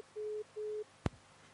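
A telephone busy signal after a dropped call to the night broadcast of rock radio station Tikhiy Don: two steady, mid-pitched beeps of equal length with a short gap between them, followed by a single sharp click as the line drops.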